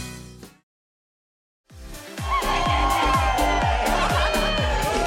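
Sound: outdoor crowd cheering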